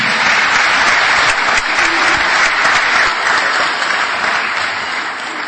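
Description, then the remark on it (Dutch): Loud, sustained applause from a large audience for the children who took part, a dense crackle of many hands clapping steadily throughout, easing off just slightly near the end. “Maar nog één laatste keer een geweldig applaus voor de kinderen die mee hebben gedaan.”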